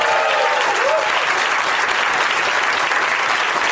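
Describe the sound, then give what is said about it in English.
A crowd applauds steadily, a dense, loud wash of many hands clapping that holds at an even level throughout, with a brief whoop or cheer rising early on, welcoming stand-up comedian Grant Lyon as a first-time guest panelist. “Give it up for Grant Lyon, everybody.”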